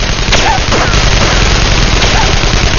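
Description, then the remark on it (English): A loud, dense barrage of gunfire from two men in a blockhouse, answered with an MP5, rattles without pause for a few seconds, with sharper cracks punching through a harsh, roaring wash and a couple of brief whining tones. “As the two men in the blockhouse started to fire again, Mildred answered with the MP5.”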